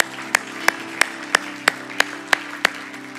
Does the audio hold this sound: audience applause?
yes